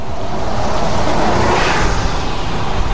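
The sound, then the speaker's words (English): Steady street traffic rumbles past on the 5500 block of West Belmont Avenue just before Central in Belmont Cragen, Chicago's 30th Ward, a continuous wash of engine and tire noise with one vehicle swelling louder as it passes midway, no voices heard. “The traffic flows on the 5500 block of West Belmont Avenue just before Central.”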